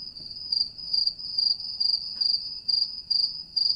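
A cricket chirps on its own in steady, evenly spaced pulses, a shrill high trill repeating about twice a second, fairly clear over a faint low background hum.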